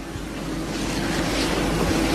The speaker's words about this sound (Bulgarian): Най-сериозни са нещата в Североизточна България, където освен снега има много силни пориви на вятъра.